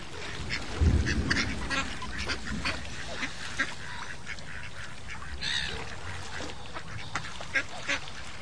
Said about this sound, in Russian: И все утки стали громко крякать в знак одобрения.